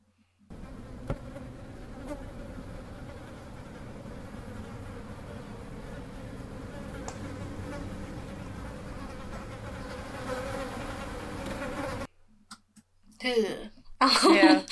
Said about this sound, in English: because we hear the awful insect-like buzzing that preludes the arrival of beings that look like people, right? It's like a really creepy buzz sound.